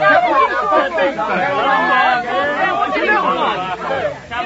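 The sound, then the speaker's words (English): A dense murmur of many overlapping voices, steady and fairly loud throughout, with no single speaker standing out, like a crowd chattering together outdoors in a street. “Sir, move this crowd back. I can't hear myself think.”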